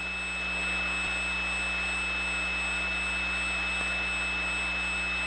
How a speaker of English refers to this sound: a suburban prefix, maybe 25 miles out from central Atlanta. I would dial the prefix. And before I'd even finished dialing the phone number, here was the sound of the connection out to that distant place.